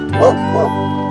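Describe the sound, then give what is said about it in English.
A dog at a dog parade barks, with two quick yips a moment apart, the first a little louder than the second, and no other sounds around them. “Hey, do you want to count the dogs in the dog parade?”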